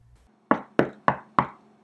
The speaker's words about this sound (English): There was a knocking sound, suddenly, though there was not a door to be seen.